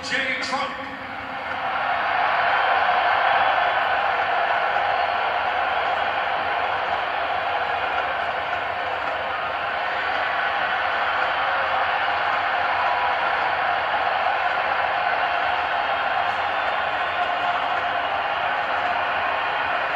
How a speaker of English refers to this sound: And people are trying to say, well, the people were booing, but it doesn't sound like it to me. It sounds like the crowd went wild.